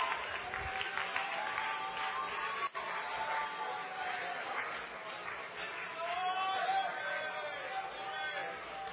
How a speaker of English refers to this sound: Clap your hands and give him praise all over the house.